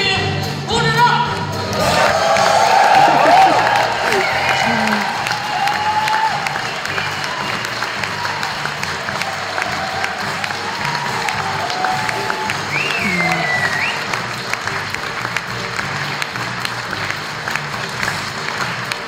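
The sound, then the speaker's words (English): A large crowd at the end of a concert cheers and applauds continuously, a dense wash of clapping with shouts and whistles rising above it, loudest in the first few seconds then holding steady. “Yeah, cheering people, yeah.”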